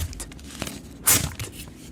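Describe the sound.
A single short, sharp ripping sound like paper being torn, made by a hand trick with a sheet of paper without actually tearing it. It is fairly loud, with faint rustles and taps before and after, and no talking.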